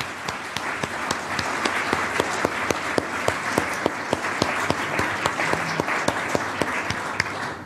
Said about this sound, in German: Applaus.